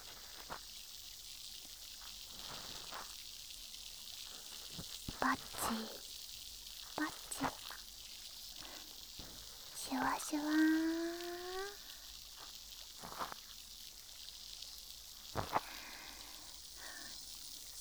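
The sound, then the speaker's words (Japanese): A dense, steady fizzing and crackling hiss of tiny bubbles popping from a soaked cotton swab inserted into the ear, broken by soft clicks and a brief rising squeak partway through. “耳の奥までシュワシュワ音が響いて気持ちいいですか？”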